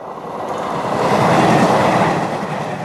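A train rolls past on the tracks in Didcot, a small town just outside Oxford known for its railway junction: a steady loud rumble and rattle of wheels that swells as it draws nearest mid-way, then eases slightly, with no voices.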